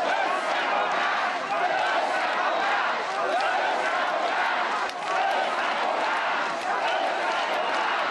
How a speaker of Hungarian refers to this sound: Hosszú ideig nem tudta elkezdeni a beszédét Mesterházi Attila. A tömeg hosszasan azt skandálta, összefogást.